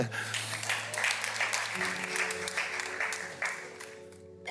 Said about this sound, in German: Also, Dankeschön, fantastisch, ja. Antizipiert, großartig, großen Applaus hier.